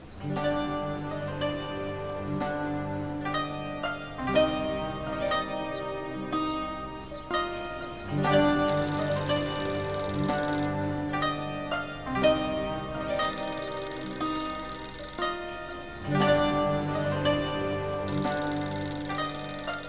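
A melodic electronic phone ringtone plays continuously and fairly loud, its bright tonal phrases repeating in a steady loop for the whole stretch with no one speaking.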